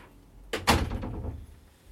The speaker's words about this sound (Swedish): Stänger vi dörren om Oskar.